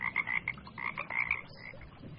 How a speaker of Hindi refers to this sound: एक तालाब में एक चूहा और मेंढक रहते थे। ये दोनों एक दूसरे को बिल्कुल पसंद नहीं करते थे। चूहे को शिकायत थी कि मेंढक हर वक्त टर टर टर करता रहता है, ना वक्त देखता है और ना ही मौसम। इसकी हर वक्त की टर टर से सर में दर्द हो जाता है।